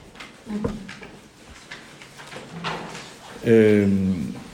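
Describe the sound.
A motorized door closes at the push of a button, giving a loud, steady humming buzz for about a second near the end, after stretches of quiet background voices.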